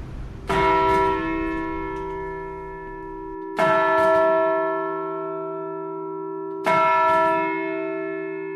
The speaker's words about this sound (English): To be a Londoner was to be born within the sound of Bow Bells. The sound would have travelled 3/4 of a mile or a mile or so, so London was very much defined as sort of, you know, a mile around Bow.